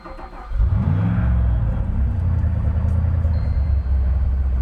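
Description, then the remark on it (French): The heavy engines of a transatlantic cargo ship, the Butterfly of the Seas, crank and roar to life at full power, then settle into a loud, steady low rumble that holds throughout, with no voices over it. “Iceberg, lancez les moteurs, pleine puissance.”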